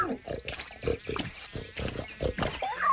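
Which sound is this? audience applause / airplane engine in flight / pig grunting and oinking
pig grunting and oinking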